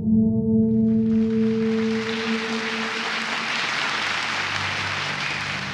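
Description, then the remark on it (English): A large crowd in a meeting room breaks into dense, steady applause for Theodor Herzl that swells in over a fading low held tone, then keeps going loud and unbroken with no voices heard. “There's 15 minutes of applause.”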